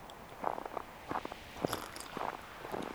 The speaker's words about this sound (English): So I'm walking over the frozen tundra, speaking to you. It's a nice image. I wonder if that's comforting. Is it comforting to be listening to someone walking virtually over a frozen tundra?